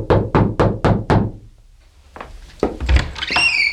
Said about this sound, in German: begab er sich in den ersten Stock und blieb vor der Zimmertür 108 stehen. Er atmete einmal tief ein und klopfte entschlossen an.